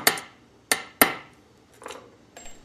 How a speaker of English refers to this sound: He makes the brass tongue cover an elongated tube sticking out from the pipe, polishes it. Everything gets polished. Curves it at just the right angle and wedges it into a slot with a hammer.